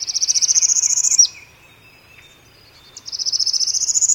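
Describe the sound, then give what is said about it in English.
A northern parula sings its rapid rising trill on a bayou in the morning, among cypress trees draped with Spanish moss: two high, buzzy trills climbing steadily in pitch, each ending abruptly, separated by a short pause with faint insect hum underneath. “A northern parula, some say parula, still others perula, sings its rapid rising trill.”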